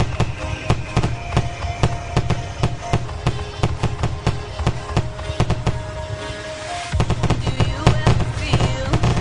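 fireworks sound effect

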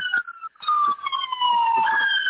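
emergency vehicle siren passing

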